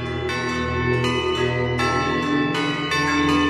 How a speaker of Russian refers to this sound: Пламя и колокольный звон наискось выметнулось из монастыря в небо.